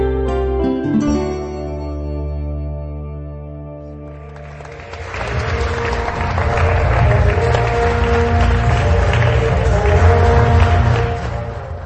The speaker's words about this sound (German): Mit Musik und mit Beifall wurden die diesjährigen Träger des Ladislav-Sutnar-Preises am Mittwochabend im historischen Zeremoniensaal des Rathauses von Pilsen begrüßt.